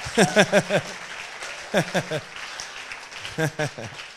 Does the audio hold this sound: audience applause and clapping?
yes